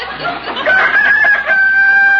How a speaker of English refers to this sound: You old rooster, you shut up.